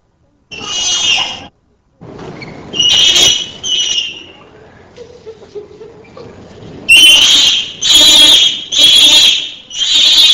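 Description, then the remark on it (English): Shrill, piercing full screams from a single male primate burst out in loud, repeated bouts, with softer, low pout moans by the same male between them, ending in a rapid run of four screams in quick succession. “Following are two examples of full screams, numbers 19 and 20. In the second example, pout moans by the same vocalizer alternate with his screams.”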